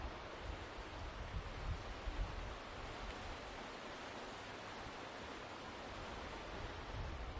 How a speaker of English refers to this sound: Well, let's see if we can hear some of that river.